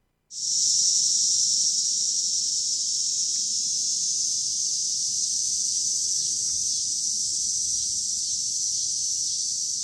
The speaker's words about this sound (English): One of the things that I think is most distinct about cicadas is the sound they make, right? We have a little bit of tape of that. Let's take a listen.